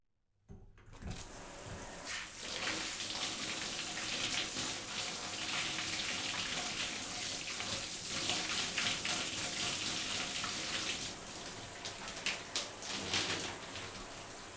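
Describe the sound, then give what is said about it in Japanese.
A shower sprays steadily onto a reclining person's hair to wet it, a continuous hiss of running water with small splashy fluctuations as the stream moves, starting abruptly and going on without any voices. “それでは髪の毛の方シャワーで濡らさせていただきます。”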